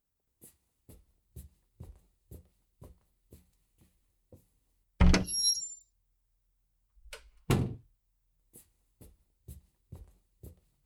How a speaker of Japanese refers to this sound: 扉壊れちゃったかな。なんだよ、壊れてないじゃん。